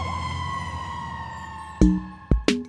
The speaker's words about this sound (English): So while a fire truck might look red, the siren noise it makes might seem so green that the person thinks of fire trucks as being more green than red.